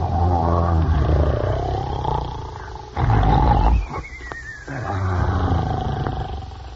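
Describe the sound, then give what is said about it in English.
Loud, deep snoring of two giants lying asleep under a tree, with a growling, roar-like rumble, rising and falling in long drawn-out breaths, with a harsher burst in the middle before the rumbling snores resume. “They were snoring so loudly that the branches trembled.”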